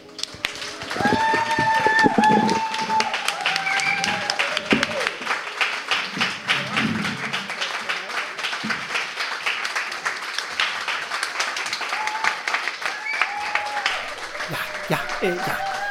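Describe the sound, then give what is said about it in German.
Sustained audience applause at a live show in Innsbruck, a dense, steady wash of many hands clapping at fairly even loudness, with some shouts or vocal cheers rising over it near the start and end. “Ja, das ging jetzt noch stundenlang so weiter mit dem Applaus.”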